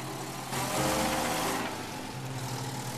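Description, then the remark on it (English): A taxi engine hums steadily, swelling louder for a moment as the car pulls off, then settling back into a low, even rumble with no voices. “His father still watches the car leave, looking uncomfortable.”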